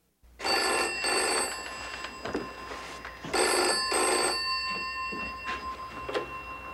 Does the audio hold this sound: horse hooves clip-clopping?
no